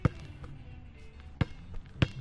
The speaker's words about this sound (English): No one around, just me and a kid in front of me, bopping to some jams, dribbling a ball. Must be on his way to the courts.